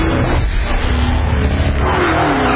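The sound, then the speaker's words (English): A powerful supercharged V8 engine in a Dodge sedan revs loudly, a deep throaty roar that rises and holds for a couple of seconds with no voices. “Think putting a supercharged V8 in a sedan is crazy or just plain wrong?”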